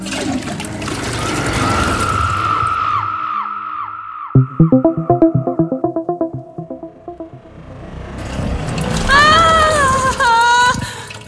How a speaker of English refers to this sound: Oh, I have to tell the toilet where we're going before we flush. I can't decide if I hope you're joking or telling the truth. Hit the handle and find out.